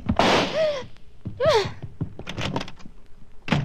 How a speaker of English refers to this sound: With a slam of the door, Miss Loring was gone, and so was the Hang Lee jade.